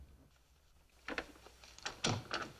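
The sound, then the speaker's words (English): A lounge door is pushed shut behind people entering: a few soft rattling clicks from the handle and latch, then a firm low thud as it closes, with a faint click after. No voices. “Into the lounge, shutting the door behind them.”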